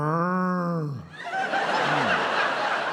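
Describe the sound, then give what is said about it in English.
A person imitates a hyena: a long, slowly falling whooping tone, then a loud, raspy, cackling burst with wavering pitch that sounds like giggling laughter. “Oh, it's a hyena, isn't it?”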